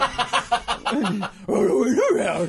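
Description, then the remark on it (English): A person imitates a dog barking fiercely, starting with a quick run of sharp, rhythmic yaps, then shifting into a longer snarling, growly bark, loud. “Viciously barking.”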